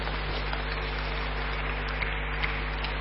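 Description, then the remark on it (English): An audience claps their hands for Jesus in a dense, steady patter of applause that holds an even level throughout, with no voices heard over it. “Can the wise clap their hands for Jesus?”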